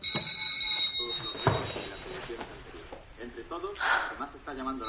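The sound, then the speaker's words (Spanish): The doorbell of the Hostal Bonita in Granada, main setting of the South Korean series Recuerdos de la Alhambra, gives a bright, high, ringing chime for about a second, then fades as voices and mixed background sounds take over. “Así suena el timbre del Hostal Bonita en Granada, que es el escenario principal de la serie surcoreana Recuerdos de la Alhambra.”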